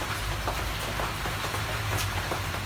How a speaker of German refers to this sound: Es regnet und auf der Plane prasselt es.